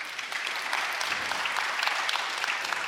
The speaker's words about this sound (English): It's good we clap.